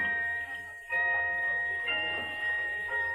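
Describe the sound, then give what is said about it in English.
A pocket watch chimes in small, delicate, sustained bright tones, a tinkling melodic mechanism playing steadily, with no voices over it. “Listen. Listen to it chime.”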